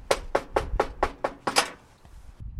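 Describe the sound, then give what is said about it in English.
A steady run of about seven or eight crisp knocks on a woman's door by two people, evenly paced, followed by a short stretch of quiet. “I knocked on her door.”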